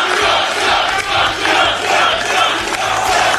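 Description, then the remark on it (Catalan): A large crowd roars and cheers continuously at Donald Trump's victory celebration after he won Iowa, a dense wall of shouting voices that swells in waves and stays loud throughout, with no single speaker standing out. “Quina rebuda, quanta gent.”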